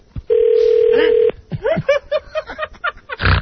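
A single steady telephone ring tone sounds for about a second as a call goes unanswered, followed by a person talking and chuckling, ending with a short burst of noise.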